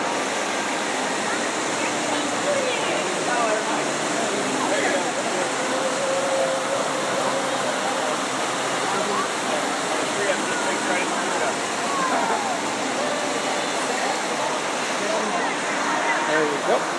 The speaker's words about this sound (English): So we're going to approach this horse. It's got a big fountain by it. And I'll be quiet so you guys can hear the fountain while we get our picture taken.